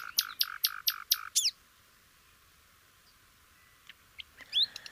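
A bird sings a quick run of five or six bright, repeated notes, then goes quiet before a few scattered chirps and a sharp trill return near the end, clear.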